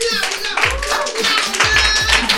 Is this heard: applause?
yes